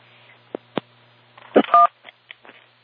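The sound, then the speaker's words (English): A handful of short electronic keypad tones and clicks from a phone as phones are being switched, irregularly spaced, with one longer two-tone beep in the middle; clear, with no talking. “I need to quickly switch phones here.”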